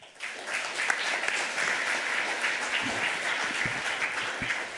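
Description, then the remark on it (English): An audience claps steadily for several seconds, a dense crackle of many hands with no voices, starting abruptly and holding an even, moderate level throughout, welcoming a speaker for a talk on privacy invasion or innovative science. “A round of applause.”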